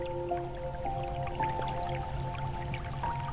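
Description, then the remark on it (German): Bare fingertips, glove taken off, dip into warm water of a cave lake fed by a hot spring, with soft splashes and scattered drips falling irregularly, over a steady low hum and faint sustained tones. “Du ziehst dir deinen Handschuh aus und lässt deine Fingerspitzen vorsichtig ins Wasser gleiten.”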